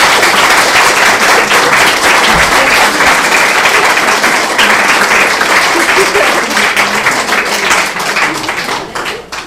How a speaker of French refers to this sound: Et je vous demande de l'applaudir encore une fois bien fort.